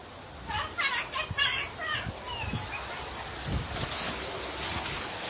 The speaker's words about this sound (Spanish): Joder, mira este pedazo de lluvia.